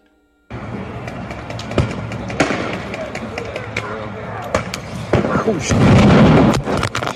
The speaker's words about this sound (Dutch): Oh ja, dat is een soort gasspreidend geweer. Wow, I know what's right. Stom geluid maakt dat zeg.